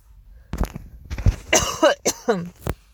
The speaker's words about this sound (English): Sorry, I keep coughing. It's because I watched the Super Bowl for the first time the other day and I screamed way too loudly at nothing, at commercials, basically.